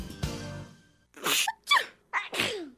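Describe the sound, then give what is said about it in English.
A short run of loud sneezes, several sharp explosive bursts in quick succession with brief gasping breaths between them, and no talking. “With the red cedar, dogwood, and red buds blooming, sneezing, watery eyes, and coughing is the norm.”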